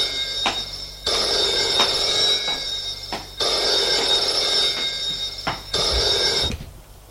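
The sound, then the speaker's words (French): A telephone on a small secretary desk in the corner of a living room rings in three long, rattling bursts separated by brief pauses, loud, with no voices around it. “Elle se lève pour aller décrocher. Le secrétaire se trouve dans un coin du salon, sur un petit secrétaire.”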